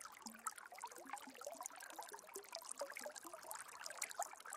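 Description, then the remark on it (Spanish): A steady, soft babble of flowing river water, with small gurgles and splashes bubbling over one another continuously, fairly quiet and unbroken throughout, with no voices. “Te encuentras ahora en un río, disfrutando de su agua fría, refrescante.”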